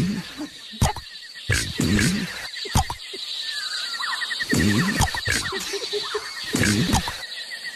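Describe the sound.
Human voices mimic animal calls, with whinnying, squealing and croaking bursts repeating every second or so, over a steady high chorus of crickets that carries on throughout.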